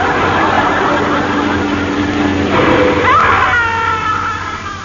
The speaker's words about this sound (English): Well, that's him gone. Marvellous what a quick touch of the brakes can do.